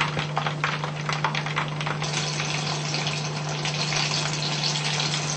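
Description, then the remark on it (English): A steady, dense sizzle of food frying in hot oil, with a flurry of sharp crackles and pops early on before settling into a continuous hiss. A low electrical hum runs underneath. “If the oil is too hot and it's spraying too much, then you lower it to medium.”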